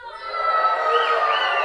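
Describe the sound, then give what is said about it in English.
A group of Haynes children, who practiced animal sounds at the Chilcat Center, let out a jungle roar together, a dense, high-pitched mass of voices that holds steady and swells slightly for a second and a half. “Hey guys! Can I hear your jungle roar?”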